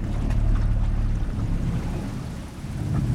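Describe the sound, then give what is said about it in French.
A small motorboat chugs steadily along a small arm of a river, passing under branches, its low engine drone holding constant beneath a wash of splashing and hull noise, fairly loud with no voices. “On a bifurqué dans un petit bras de rivière et on va passer sous les branches.”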